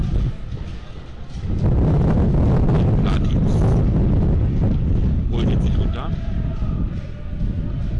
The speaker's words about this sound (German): Wirklich enorm hier, ihr mögt es mir nachsehen, wir sitzen hier genau in der Einflugschneise des Windes, hier hätte jetzt meiner gesagt. Von der Flussseite kommt es, ja, vom Kanal fegt es hier über unseren Kommentatorenplatz.